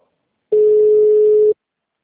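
telephone line ringing unanswered

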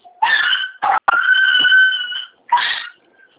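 dog barking and whimpering

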